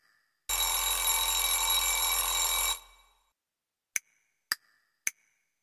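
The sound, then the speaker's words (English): A loud, continuous alarm clock bell rings for about two seconds at 6 o'clock to wake someone up and stops abruptly, followed by three quick, sharp ticks or clicks spaced apart in the quiet. “Time to wake up, time to wake up. It's 6 o'clock. I'm ringing to wake you up.”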